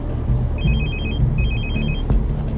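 A phone rings from inside a bag with a call from an unknown number, its electronic ringtone repeating in two quick bursts of chirping tones over a steady low rumble, with no voices.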